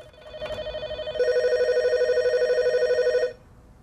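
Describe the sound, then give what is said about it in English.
An intercom door buzzer at a flat, pressed repeatedly by a man, sounds with a rapid, trilling mid-pitched drone, first softly for about a second, then louder and sustained for two more seconds before cutting off. “Seeing a light on, he goes back to pressing the buzzer.”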